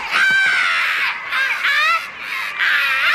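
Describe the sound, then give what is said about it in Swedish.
A person imitates a Canada goose's honking with three loud, harsh, nasal calls in quick succession, with brief pauses between them. “Eller vad är det de låter? Nej, så låter de inte. Hur låter de?”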